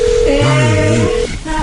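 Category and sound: signal or alarm, telephone ringback tone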